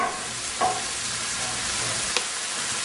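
A mixture being seasoned bubbles and sizzles steadily on a stove in an apartment, an even hiss with two brief clinks of a utensil against the pan, and no voices.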